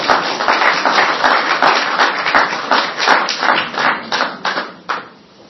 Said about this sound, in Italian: Vi hanno pagato, per l'applauso finale.